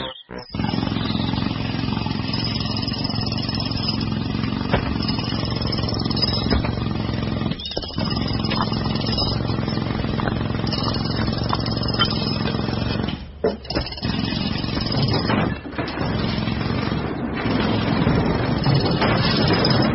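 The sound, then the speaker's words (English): A loud, harsh mechanical roar of a pneumatic drill smashing a house down, pounding away almost nonstop for the whole stretch, broken by a few brief pauses, with a gritty, rumbling, smashing texture. “He went and fetched his pneumatic drill and smashed the house down.”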